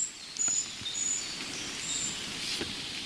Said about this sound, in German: Also ich sag mal, dieses hohe Zieh, das klingt für mich fast wie Jungvögel. Könnten das Jungvögel der riesigen Gartenbaumläuferfamilie sein? Das klingt so gartenbaumläuferisch. Aber wer weiß es schon.